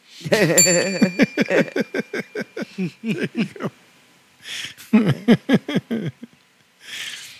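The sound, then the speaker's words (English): A single bell rings out near the start, its bright tone lingering for a couple of seconds while a burst of rhythmic laughter runs over it, then fades and returns briefly. “Yeah, Paul says, ring that damn bell.”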